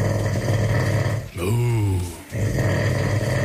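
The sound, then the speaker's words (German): A man snores loudly at night in Brandenburg, Germany: rough snoring with a deep rattling rasp, broken in the middle by one drawn-out, tonal snore that rises and falls in pitch before the harsh rumbling resumes. “Ja, vielleicht ist das die größte Schnarchnase Brandenburgs,”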